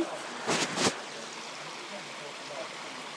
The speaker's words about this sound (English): Oh, look at that. You've got the rail and the waterfall is right in front of you.